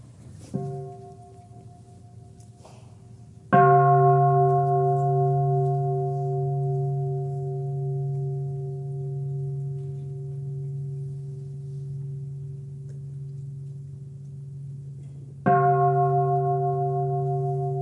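A small meditation bell is struck twice, each ring blooming into a long, sustained, humming tone that slowly fades; the strikes are about twelve seconds apart, clear, with quiet surroundings, signalling meditators to undo their legs and massage them.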